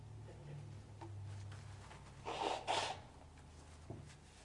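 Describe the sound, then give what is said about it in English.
A person blows their nose in two short, forceful honking bursts, fairly loud, over a low steady background hum with no talking. “By the way, I never like blowing my nose when I'm speaking, but it is what it is.”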